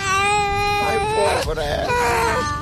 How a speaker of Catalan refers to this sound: Què són aquests plors? Que hi ha un porc sanglar? Aquí hi ha un nen, sí. O no? Per un moment... Està plorant el nen. Mira, aquí hi ha un nen plorant. Ai, que mono.